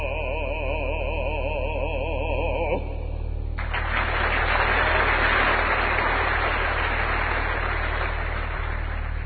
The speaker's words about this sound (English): Anyway, let's listen to the break between songs, and you'll hear the applause and the animated speech.